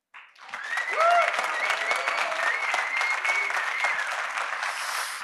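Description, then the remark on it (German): A live audience breaks into loud, sustained applause with cheering and whistles, the clapping dense and steady for about five seconds, with no one speaking over it. “wir sind heute bei den Austrian Sales Days live auf der Bühne und live bedeutet, wir haben Publikum und ich würde sagen, das Publikum wollen wir jetzt mal hören.”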